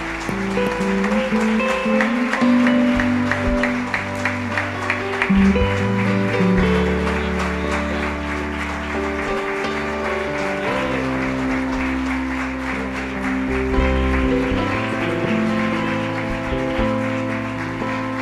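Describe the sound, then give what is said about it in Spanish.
Sustained applause from a church audience, a big round for Jesus as people come forward to give or rededicate their lives to God, a dense steady patter of many hands clapping, runs the whole way over loud music with held notes and a deep bass line. “¿Cuánto le damos un aplauso grande a Jesús por estas vidas que vienen?”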